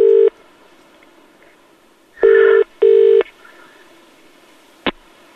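A telephone ringing tone sounds in short, steady electronic bursts, one brief burst followed after a pause by a double ring, then a sharp click as an American record producer answers the phone.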